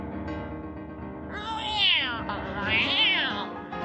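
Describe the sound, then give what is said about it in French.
A cat lets out two drawn-out, rising and falling meows in quick succession, loud, with no one speaking. “Un grand chat orange sauta sur eux et les prit par les pattes.”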